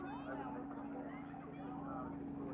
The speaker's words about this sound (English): So the helicopter's high in the sky now. It's about 200 feet above us, coming in over the drop zone.